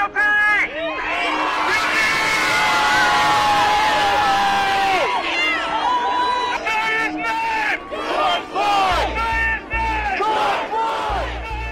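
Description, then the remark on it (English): A large outdoor crowd outside a courthouse, awaiting the verdict, erupts in loud, sustained cheering and shouting after a guilty verdict in a murder trial, with whoops and overlapping voices rising and falling in waves, some chanting bursts toward the end. “Instead of the protests and confrontation some had feared, fears that we spoke about yesterday, it was a moment of release for the crowds awaiting the verdict.”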